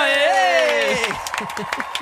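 A drawn-out, rising and falling vocal whoop or cheer gives way to a short burst of scattered hand claps, irregular and fairly sharp, lasting about a second.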